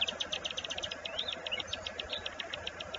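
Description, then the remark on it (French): A nightingale sings a fast, steady series of repeated bright chirps with a few short warbled phrases, over a constant low rumble like traffic. “Le Rossignol chante l'âme.”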